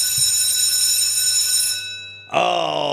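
A loud electric school bell rings steadily for about two seconds as a biology class begins, cuts off briefly, then starts ringing again with a harsh metallic buzzing tone.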